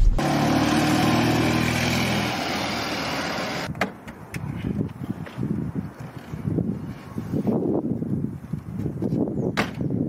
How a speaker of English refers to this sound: So that was the Fiat 126P Maluk.